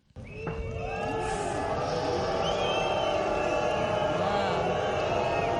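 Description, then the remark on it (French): A large crowd boos and jeers continuously at Prime Minister Manuel Valls at a tribute on the Promenade des Anglais in Nice, as he arrives and leaves, a dense wall of overlapping voices with shouts and shrill whistles rising through it, loud and unbroken from start to finish. “Manuel Valls, venu participer à l'hommage sur la promenade des Anglais, théâtre de la tragédie, a été hué à son arrivée et à son départ.”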